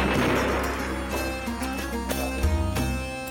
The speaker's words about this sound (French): Le mitrailleur déplaça légèrement le canon de son arme et ouvrit le feu.